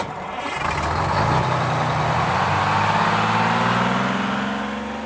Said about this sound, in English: I can hear a bus. It's noisy.